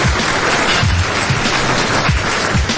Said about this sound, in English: Round of applause. Round of applause.